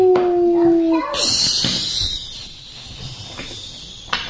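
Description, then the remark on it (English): A voice imitates the roar of rocket boosters blasting at launch, starting with a brief sustained hum and breaking into a long, breathy hissing whoosh, fairly loud, with no words spoken. “There's a rocket fire. Rocket boosters blast. Flames roar. Up into space they go.”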